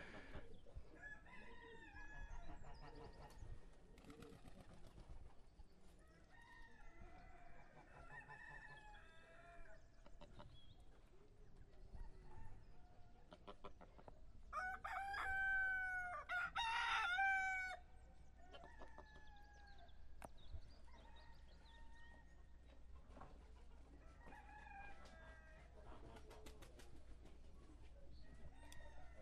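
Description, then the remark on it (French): A rooster lets out a loud, drawn-out crow partway through, on a Sunday morning in Couffé, standing out over a busy outdoor backdrop of clucking fowl and scattered bird calls. “Et là, c'est comme du luxe de parler des coqs.”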